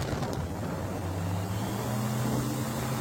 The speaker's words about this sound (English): He amps up the engine again.